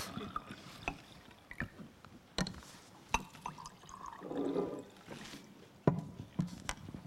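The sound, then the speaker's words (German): Water is poured into a glass for about a second, a soft gurgle rising in pitch, set among scattered clinks and knocks with no talking, as water is offered to a guest on a stage. “Ich kann Ihnen nur Wasser anbieten.”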